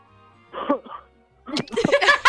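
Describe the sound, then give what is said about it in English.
A voice imitates a loud, raspy smoker's cough: a short hacking burst, a brief pause, then a longer, harsher fit of rough, phlegmy coughing. “He was greeted by the bus driver's loud smoker's cough.”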